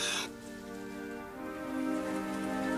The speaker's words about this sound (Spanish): Noé estuvo mirando cuándo dejaría de llover, pero la lluvia continuaba. Llovía y llovía como si nunca fuera a parar.